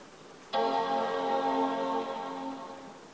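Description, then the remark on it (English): A Mac computer's startup chime sounds once as it is switched on with its power button, a rich sustained chord that starts abruptly and fades slowly over a few seconds, fairly quiet, with no voices. “We turn the button on, and we should be hearing the Mac chime soon.”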